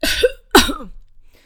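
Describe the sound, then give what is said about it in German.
Two harsh coughs in quick succession, the second slightly stronger, followed by a brief quiet tail with a faint breathy sound. “hustete und eine neue Woge Funken folgte.”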